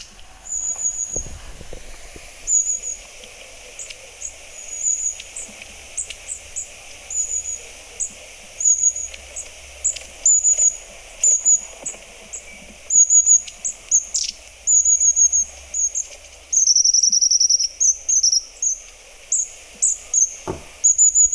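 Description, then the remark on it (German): High, thin calls of long-tailed tits, repeated in short bursts and trills throughout, some sharper, with soft background hiss and no talking. “Soll ich mal abspielen? Ja, mach doch mal bitte. Die Schwanzmeise.”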